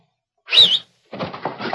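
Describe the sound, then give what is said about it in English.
A knife thrown at a man thuds into wood with a sharp, ringing thunk, followed after a short pause by a burst of rough scraping and rustling. “Tried to pin me with a knife, huh?”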